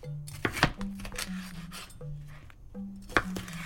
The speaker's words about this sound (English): So what are you chopping up there